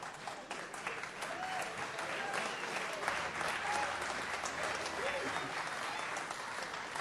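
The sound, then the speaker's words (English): An audience applauds a commercial steadily throughout, a dense wash of many hands clapping at a fairly loud, even level with no voices rising above it. “I never got applause for a commercial before.”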